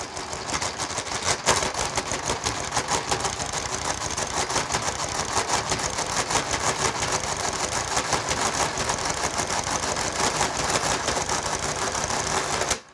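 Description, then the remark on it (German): A mechanical calculator, cleared and started with the radicand keyed in, churns steadily for about twelve seconds computing the square root of 3, a dense rapid clatter of gears and clicks with a sharp knock near the start, then stops abruptly. No one speaks. “Maschine löschen, Radikant in die Tastatur und Start.”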